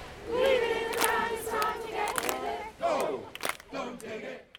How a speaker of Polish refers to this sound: Tłumy ludzi protestowały, blokując kilka ulic w centrum Londynu, aby zwrócić uwagę na problem katastrofy klimatycznej.